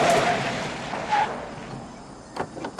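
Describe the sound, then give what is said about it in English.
A car slows and pulls over, its rushing road noise fading to a quieter idle, followed by a couple of short clunks near the end. No one speaks. “As it disappears on the road ahead, Lucas pulls over.”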